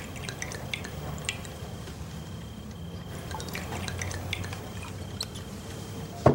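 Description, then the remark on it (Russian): Cognac trickles and drips as it is poured into small shot glasses, first one and then another, a quiet liquid patter over a low hum, ending with a faint clink of glass. “Гоцман наливает коньяк в рюмки. Сначала Норе, потом себе.”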